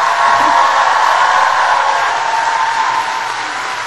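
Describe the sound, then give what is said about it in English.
The McGill class of 2015, standing, gives sustained applause to the people there cheering them, a dense, steady wash of clapping that stays loud throughout and eases off only slightly at the end, with no voices standing out. “Now, I want the class to stay standing up because I want you, class of 2015, to give a big round of applause to all the people who are here cheering you.”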